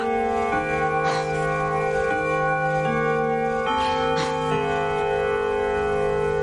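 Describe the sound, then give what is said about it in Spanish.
A melodic doorbell chime, rung again by a man at the door, rings out clearly, its bright bell tones stepping through a short repeating tune with overlapping, ringing sustain, loud, with no voices. “vuelve a tocar el timbre.”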